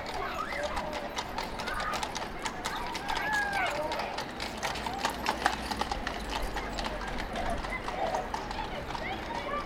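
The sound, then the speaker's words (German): Horse-drawn carriages clatter over a street in an 18th-century city quarter, hooves clip-clopping in a steady rhythm amid a busy background of voices and bustle, with children playing in backyards and a horse occasionally whinnying. “Kinder spielen in den Hinterhöfen und Pferdekutschen rattern über die Straße.”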